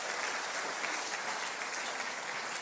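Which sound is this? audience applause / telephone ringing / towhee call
audience applause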